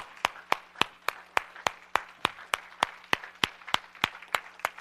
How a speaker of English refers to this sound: Somebody stand and give Jesus the best hand clap offering you can give him this morning. Would you do that for me, please?